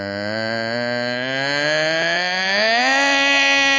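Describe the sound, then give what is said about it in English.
A voice imitates a Vitamix or Ninja blender running at low speed: a steady, buzzy droning hum that slowly climbs in pitch over about four seconds, held at an even, fairly loud level. “You got that thing where, you know, you turn it on and then it has this real low speed and it goes...”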